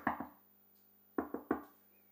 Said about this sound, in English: But Peter keeps knocking on the door.